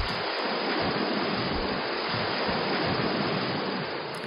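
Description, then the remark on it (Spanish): Ocean waves breaking on shore make a steady, dense roar of surf that fills the whole few seconds without pause, fairly loud, with no voices. “Un día de poniente fuerte, las secuencias o periodos de las olas podrían ser de unos 14 segundos, mientras que otro día, con un poniente medio, el periodo bajaría a unos 8 segundos.”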